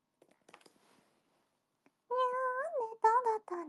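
After a few faint clicks, a voice breaks into a drawn-out, fairly loud meow imitation, followed by two shorter mewing calls in quick succession.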